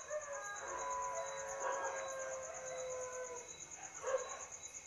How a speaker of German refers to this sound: Und es war so laut. Die Nachbarn waren laut, aber auch die Tiere, die Hunde haben gebellt und die Hühner haben gegackert und da sind noch Kühe und Esel und die gehören gerade rein.